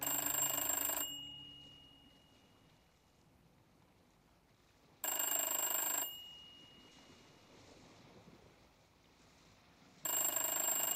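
An old-style telephone bell rings loudly in a house in three short bursts, each about a second long and spaced several seconds apart, with only faint background hiss in between and no voices.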